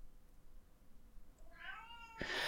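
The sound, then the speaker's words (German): A hungry cat yowls in a hallway, a drawn-out rising meow with strong harmonics swelling in the second half, followed by a louder, harsher burst at the end. No one speaks. “Also der jault jetzt gerade im Flur.”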